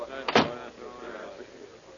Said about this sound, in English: Oh, we're the last ones in. Close the door, will you?